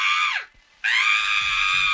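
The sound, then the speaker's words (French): A woman, Deianira, wife of Heracles, screams loudly twice as the centaur Nessus tries to assault her: a piercing cry that drops off, a brief gap, then a longer sustained shriek held at full intensity, alone. “Alerté par les cris de son épouse, Héraclès transperce le flanc du centaure avec une de ses flèches empoisonnées.”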